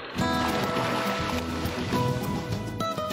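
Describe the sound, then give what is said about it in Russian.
Black Sea waves wash steadily against a rocky shore at Novy Svet, below the Koba Kaya and Sokol mountains, a continuous hissing surge at moderate loudness with no break, faint tonal hums blended beneath the roar. “Море, прибрежные камни, горы Коба Кая и Сокол.”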